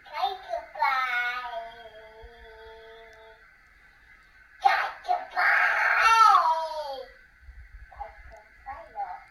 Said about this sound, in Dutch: Omdat er een kind boven in bed ligt. Te zingen op dit moment. Dus... Ja, zet de babyfoon eens aan.